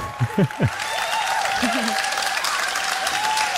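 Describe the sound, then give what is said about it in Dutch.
Sustained applause from a large live audience at an open-air theatre in the Rivierenhof park in Deurne, in the evening, a dense steady patter of clapping with a few scattered voices and cheers rising briefly at the start. “Hoor je dat, dames en heren? Live publiek in het Rivierenhof in Deurne.”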